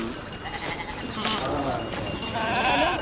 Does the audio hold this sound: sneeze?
no